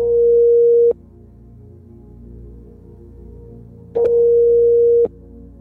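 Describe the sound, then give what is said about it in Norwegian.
A telephone ringback tone on a call to the public prosecutor's office in Oslo: a steady electronic beep lasting about a second, a long pause, then a second beep, heard clearly over a faint low hum. “som ringer tilbake nå”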